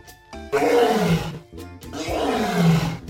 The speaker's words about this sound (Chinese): 哇，狮子的叫声好大哟。 狮子的嘴巴张得好大哟。